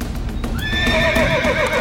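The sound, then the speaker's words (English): A horse gives a loud, quavering whinny over the steady clip-clop of hooves, with no voices; the horses of two knights charging toward each other on a lawn in a joust with spears. “The spears of both knights were shattered, but both men stayed on their horses.”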